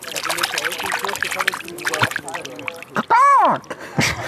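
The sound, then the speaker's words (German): Water splashes and sloshes gently and repeatedly as a hand paddles around in a lake, followed by a short, loud, tonal call. “Du plätscherst ein bisschen im See rum und das Erste, was dir einfällt, ist Bock, Bock.”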